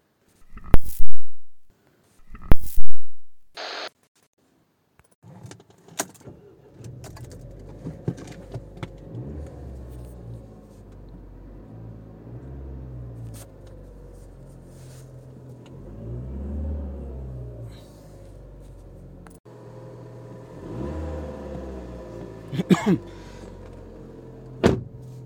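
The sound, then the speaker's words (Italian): A car door thuds shut a couple of times, then an engine starts and settles into a low, steady rumble as the car drives off into town, with a few clicks and knocks from inside the cabin. “Adesso uscirò, vado in macchina e vedo un attimo oltre ai vicini cosa succede in città.”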